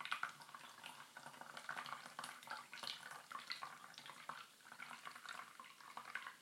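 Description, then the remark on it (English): A fizzy drink is poured slowly and steadily, a continuous soft hiss of liquid with crackling bubbles running throughout, fairly quiet, with no talking. “Concentrate on pouring this in, folks. And I'm doing it slowly because it's quite fizzy.”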